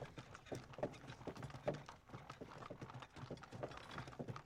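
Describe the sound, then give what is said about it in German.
Horse hooves clip-clop steadily in a brisk, uneven rhythm as a coachman whips the horses on and a horse-drawn carriage sets off at night in Uppsala, with a faint rumble of the moving carriage underneath and no voices. “Der Kutscher peitscht die Pferde vorne an und ihr macht euch auf, loszufahren, wie es scheint.”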